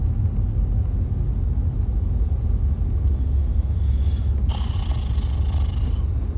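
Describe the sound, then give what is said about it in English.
Steady low road rumble from inside a car moving through traffic from Katy to Houston, a constant deep drone with a brief brighter hiss of another vehicle passing near the end; no one speaks. “How about this traffic, man?”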